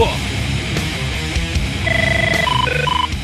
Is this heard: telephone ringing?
yes